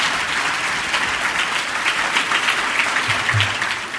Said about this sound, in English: But before we ask them, can we please get a round of applause? Alex Schadenberg.